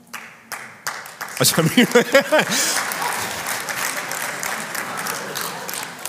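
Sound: clapping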